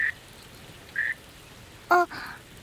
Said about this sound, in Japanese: あのさ、帰り道、このカエルたち数匹も一緒でもいい？この子たちは、あなたの帰る方と同じ方向から来たみたいで、ちょっとゆっくりになっちゃうけど、私がある程度運ぶから